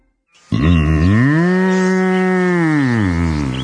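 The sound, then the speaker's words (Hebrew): A single long, loud moo from an Angus cow from Uruguay, starting abruptly, bending upward in pitch, then holding a steady, rich lowing tone for about three seconds before fading slightly. “נולדתי באורוגוואי, לזן אצילי ומשובח של אנגוס.”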